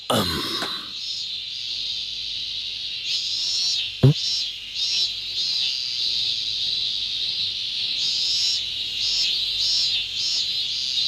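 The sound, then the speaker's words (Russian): Loud cicadas drone continuously in a dense, shrill buzz that pulses slightly in intensity, with a brief sharp knock partway through and no voices. “Сегодня цикады такие громкие.”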